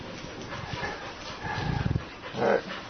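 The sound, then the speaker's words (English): A dog whimpers and whines, with a short run of quick yips and a louder bark-like cry near the end, against a quiet indoor background. “I'm like a dog coming to visit.”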